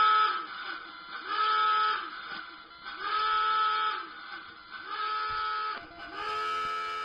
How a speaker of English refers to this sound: The alarm shuts off and BB's like, do you guys not like that alarm? I could do a different one.